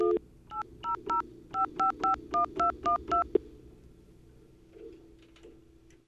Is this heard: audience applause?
no